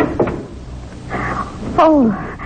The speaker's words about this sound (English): He's unbolting the door now.